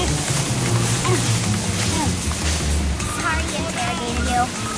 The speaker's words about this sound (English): Holding on to a handled rope, Tom bounces through the lake, kneeling on a board. Water sprays into his face.